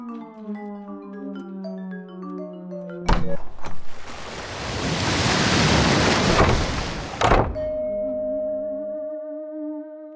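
A single loud rush of surf swells and breaks on the shore for a few seconds, set between soft, sustained musical tones that play before and after it.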